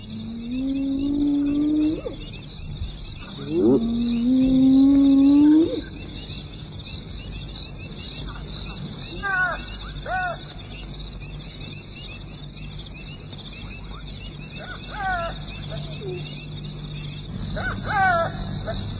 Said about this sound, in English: But the lion chases him away, and those frustrated pallbearers, the hyena and the jackal, set up a mournful chorus.